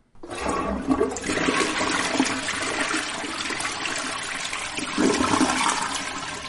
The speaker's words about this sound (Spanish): Pero señores, yo creo que viene una reseña interesante y nos vemos después de la jalada del baño.